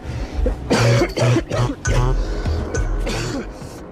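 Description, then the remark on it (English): A man coughs hard several times in quick, ragged bursts, with rough throat-clearing between, fairly loud, with no other sounds around. “Looks like he gave the disease to about 14 people on the way off the bus, coughing, gripping the pole.”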